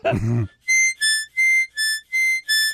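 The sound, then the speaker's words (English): After a brief vocal sound, someone whistles six short, evenly spaced notes alternating between two pitches, imitating a British two-tone ambulance siren, loud. “That's an ambulance in England.”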